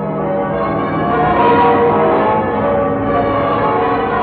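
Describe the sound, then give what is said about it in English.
The church bells of Westminster Abbey, London, peal continuously in celebration of VE Day, a loud, dense wash of overlapping rings with steady, full volume and no pauses, sounding reverberant like an old recording. “Those are the bells of victory ringing on VE Day in Westminster Abbey, London.”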